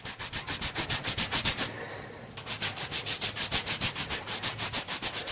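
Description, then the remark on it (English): A wet, gel-soaked cotton wipe, made by dripping water onto a white tablet from a sachet, is rubbed briskly over a woman's arms to clean them, in quick, even back-and-forth strokes, with a short pause before the steady, soft scrubbing rhythm resumes. No one speaks. “uses the wipe to clean her arms.”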